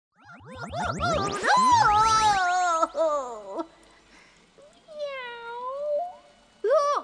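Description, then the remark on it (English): A cat meows loudly, a long drawn-out yowl followed by a softer wavering meow and a brief final mew, with no talking. “Wenda's a cat now.”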